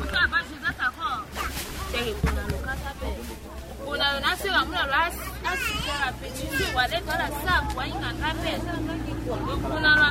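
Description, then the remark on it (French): Several women market traders talk and chatter nearby in overlapping voices, discussing their problems, a busy outdoor market hubbub with a steady low rumble of background activity underneath. “À côté, les autres commerçantes discutent sur leurs problèmes.”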